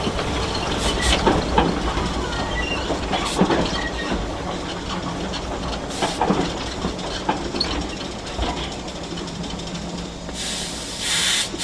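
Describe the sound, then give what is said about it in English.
Train wheels clatter over rails in a steady rumble, broken by irregular sharp clacks and a couple of brief hissing bursts near the end, as the train runs through rainforest in Tasmania. No one speaks. “My role today is fireman on the train.”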